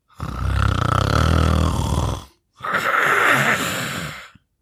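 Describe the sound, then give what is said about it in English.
Loud, rasping snoring like a buzzsaw from an old grandfather fast asleep: a long buzzing inhale followed, after a brief pause, by a rougher, breathy exhale, like a saw grinding back and forth. “But when Granny came back, just before tea time, old Grandad was still fast asleep and snoring like a buzzsaw.”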